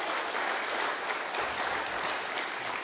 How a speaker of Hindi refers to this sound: एक बार जोरदार तालियों से उनका स्वागत कीजिए।